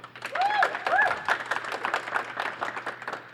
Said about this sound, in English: All right, so it is up to y'all, the audience, to decide which one progresses in the March Madness bracket. We will go by applause, yeah. I guess. All right, so if you want … to go forward, please clap.